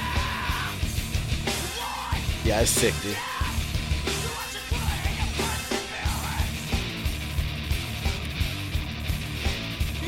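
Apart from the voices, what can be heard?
screamed vocals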